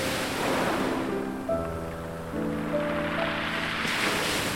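Stormy sea waves surge in a steady, full roar, with low sustained musical tones droning underneath. No one speaks.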